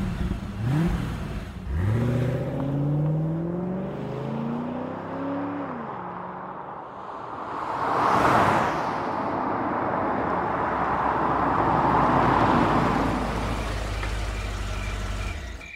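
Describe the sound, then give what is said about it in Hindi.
A car engine revs and accelerates as it is driven to a bungalow, its pitch sweeping upward through several gear changes, then a loud pass-by whoosh followed by a steady low rumble of the vehicle driving on. No voices. “Kevin अपनी गाड़ी से कुमार के बंगले तक जा पहुंचा।”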